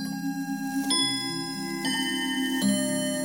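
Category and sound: sound effect, clock ticking sound effect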